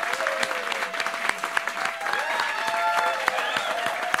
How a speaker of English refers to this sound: And Tomar has been gracious enough to join us tonight. So everybody give a big round of applause to my man Tomar.